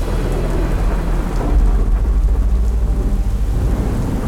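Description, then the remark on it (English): Steady heavy rain pours down while deep thunder rumbles continuously underneath, loud, with no voices present, during a summer storm in the evening. “But one evening, during a summer storm, Robert awoke to the sound of his dogs barking.”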